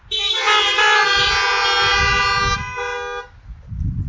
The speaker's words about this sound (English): since we are doing a drive-in, I'm going to say, "The Lord be with you," and then if you would like to say, "And also with you," to me today, would you all honk your horns on your car today?